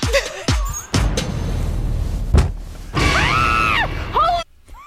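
A woman lets out a loud, high-pitched scream of fright that rises and falls over about a second, preceded by shorter startled yelps and a rough, noisy background.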